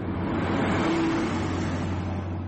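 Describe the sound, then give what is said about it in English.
A minibus taxi packed with 22 people drives through Johannesburg city centre traffic, its engine humming steadily, a low droning motor that rises slightly as it accelerates, with a continuous wash of road noise and no voices. “Modiba drives on sidewalks, in bus lanes, and on the wrong side of the road. His taxi is packed with 22 people.”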